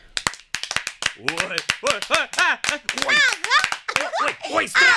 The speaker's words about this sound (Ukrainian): Не вірю, ану, стрільніть. Діти, діти, плескайте у долоні.